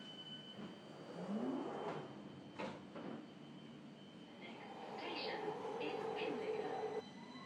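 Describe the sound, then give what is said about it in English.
A train carriage rumbles steadily along the rails, a continuous roar punctuated by a couple of sharp clunks and, later, a thin metallic squeal rising over the din. “The carriage rumbles on.”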